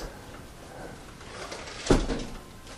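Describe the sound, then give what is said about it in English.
A door is pushed shut during a Bible teaching on the last days, landing as one short, solid thump against a quiet hum, with nothing else happening around it. “would you go shut that door?”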